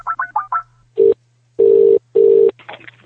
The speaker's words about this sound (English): Now, before we go to the next and final part of the show, I just want to make a quick phone call.